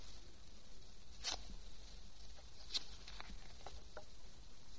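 Paper crinkles and tears in a few short, crisp bursts over a low hiss as a paper cover hiding the brand name is pulled off a pack of cigarettes, revealing the brand Raleigh, with quieter rustles in between. No one speaks.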